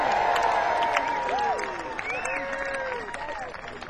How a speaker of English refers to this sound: This is Folks Fest. You guys use paper. Can we just have a big cheer for paper? I miss paper!